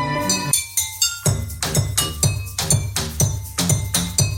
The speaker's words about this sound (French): Il y a simplement des verres et une bassine.